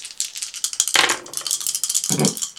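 Several dice rolled for a crash couch check in a game rattle and clatter across a hard surface in a quick, busy run of sharp clicks, with a louder tumble near the start and a duller knock near the end. No one speaks.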